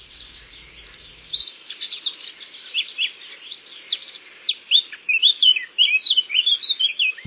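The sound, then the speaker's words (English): A songbird sings a rapid, continuous stream of high twittering notes and short whistled trills, clear, building in loudness toward the end, with no voices present. “these birds are genetically programmed to migrate to England rather than to Spain”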